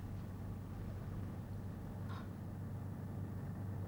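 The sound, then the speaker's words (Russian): A motor boat engine drones steadily throughout, a low constant hum with a rough, noisy texture and a brief higher-pitched tone partway through. No one speaks. “Это катер. Я слышу катер.”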